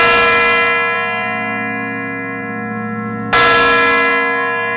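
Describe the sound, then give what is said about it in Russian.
The large bell of the Kremlin's mechanical clock-tower chimes strikes twice, about three seconds apart, loud and directly overhead, each deep clang leaving a long, shimmering hum that rings on between strikes. “Это большой колокол.”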